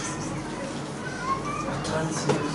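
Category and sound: crowd, children playing outside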